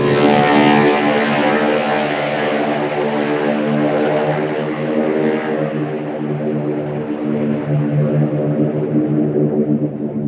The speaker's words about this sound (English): climbed into a single-engine C-64 Norseman that would fly him across the English Channel to Paris.